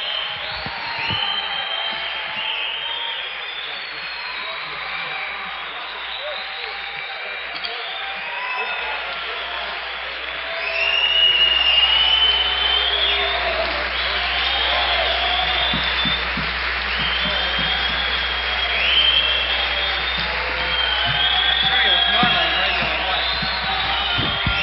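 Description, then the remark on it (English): A concert crowd at Listener Auditorium applauds steadily for an encore, a dense wash of clapping threaded with shouts, whoops and high whistles, swelling louder about halfway through and staying strong to the end. “Everything seems to really be going fine here at Listener Auditorium, and I believe the crowd are really asking for some more.”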